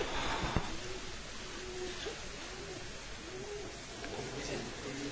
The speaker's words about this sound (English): Oh, it's a pigeon. I thought it was a pigeon ringer. These days, you just don't know. All right, pigeons are really nice.